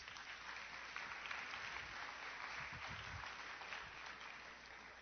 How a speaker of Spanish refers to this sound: Pueden sentarse, un aplauso para los muchachos.